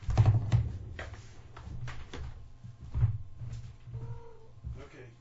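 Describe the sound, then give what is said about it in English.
A cat gives a short, soft meow near the end, wanting to go outside, amid clicking, tapping and thumping household noises. “The kitty wants to leave.”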